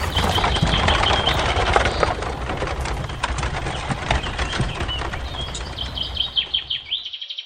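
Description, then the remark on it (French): A horse-drawn carriage rattles along with a steady rumble of wooden wheels and clopping hooves, birds chirping faintly over it, the noise thinning into distinct knocks near the end. “C'est ainsi qu'à bord d'une voiture à cheval, il se retrouvera dans les Sierras, montagnes, de Curumalan, à 600 km environ de Buenos Aires, capitale de l'Argentine, et à 140 km du grand port de Bahía Blanca, dans les terres de Piyué.”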